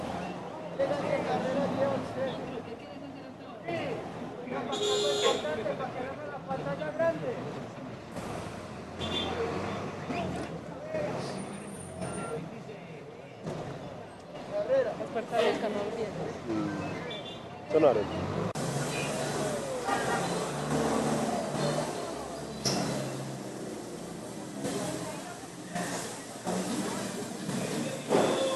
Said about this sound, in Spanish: Un carro hila, otro va. Los buses de Zamora, Santa Cruz, Andalucía y Copacabana pasan por acá.